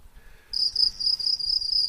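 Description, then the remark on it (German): Crickets chirp in a steady, high-pitched trill that starts about halfway into a quiet moment and keeps pulsing rapidly, with no one talking. “So, hier grillen sie.”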